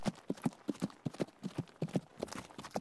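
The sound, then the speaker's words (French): Horse hooves clip-clop in a steady walking rhythm as a horse carrying a rider is led out of a city, a quick run of distinct clattering strikes, with no voices over them. “Après la bénédiction du roi et la ferme poigne du capitaine de la garde, on vous hisse sur un cheval que l'on guide hors de la cité.”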